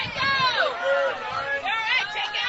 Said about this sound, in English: And that will get some disagreement here from the Washington County crowd, but nonetheless, we have a 2-2 count coming up.